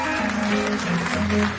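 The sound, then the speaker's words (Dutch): Steady audience applause as the band's organist, Frank Bont from Tilburg, is introduced: a dense wash of clapping hands with a sustained organ-like tone humming underneath, holding at an even loudness throughout. “Frank Bont is op zijn orgel uit Tilburg, dames en heren. Applaus.”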